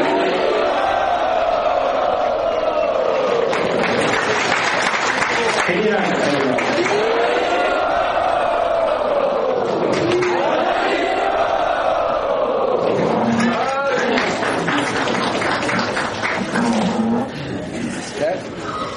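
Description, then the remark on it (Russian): A large crowd in Jagannath Puri (Sri Kshetra) shouts and cheers loudly to welcome a guest, a sustained, swelling roar, many voices rising and falling together in repeated waves for nearly twenty seconds before easing slightly. “А теперь давайте громким хайбом поприветствуем”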